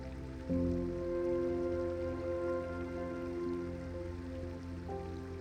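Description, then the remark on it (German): A clear babbling brook fed by melting winter snow gurgles and rushes in a steady, unbroken wash of water, joined about half a second in by a soft, sustained tonal drone that hums underneath. “Deine Aufmerksamkeit wird von einem klaren, sprudelnden Bach angezogen.”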